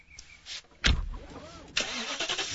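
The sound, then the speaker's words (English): A car engine cranks with a sharp burst, catches, and its pitch swoops upward before settling into a loud rumbling idle that fills the rest of the moment. No one speaks. “Today, I'm test driving a certified pre-owned BMW along with an array of other cars.”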